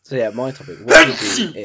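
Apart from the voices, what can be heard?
sneeze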